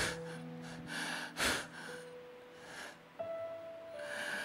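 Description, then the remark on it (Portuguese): A voice imitates heavy, labored panting: several breathy gasps at uneven intervals, one sharper and louder, over soft sustained background music. It imitates a sick man sitting up who cannot breathe lying down, even with a breathing machine. “E ele ofegante fala”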